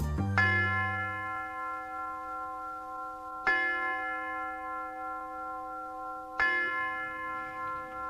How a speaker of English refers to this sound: The University Tower chimes ring another session of Ask the Professor